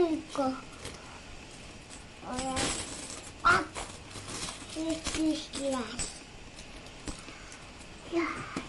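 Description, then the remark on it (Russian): Coins clink in a few sharp, irregular metallic bursts as a young child handles and counts them, babbling and talking in Russian over the jingling. “Посчитай, сколько там монет.”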